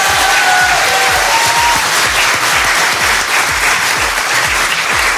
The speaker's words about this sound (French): Sauf pour une personne qui a très bien dormi, vous pouvez applaudir,